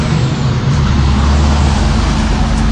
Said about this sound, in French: Il a une petite voiture, club car. Mais c'est vraiment... Il a des gants, il a une petite voiture électrique.